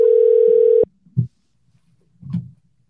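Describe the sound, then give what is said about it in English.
A telephone ringing tone, as a call is placed to a guest, sounds as one steady, loud electronic beep for under a second, then cuts off abruptly, followed by a couple of soft, low thumps and clicks. “…, and that is attempt to get one Zach Willis on the phone, not in studio, but on the phone.”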